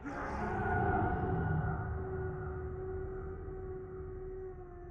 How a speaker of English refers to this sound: As my side split, I almost allowed myself to slow down, until another anguished and angered howl bellowed out from behind me, convincing me to push through the pain and almost caused me to break.